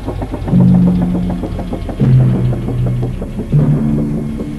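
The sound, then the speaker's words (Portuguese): A police boat's engine chugs steadily and fairly loud, its low rhythmic throb stepping down in pitch a couple of times as it approaches, eases off, slows and pulls alongside another boat. “Eles vêm direto pra abordar a gente. Já estão diminuindo e encostando.”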